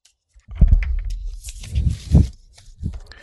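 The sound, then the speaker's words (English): Playing cards are shuffled during a card game in a few quick, irregular bursts of papery rustling and soft thumps, with a brief crisp riffling flutter in the middle and no voices. “I'll shuffle.”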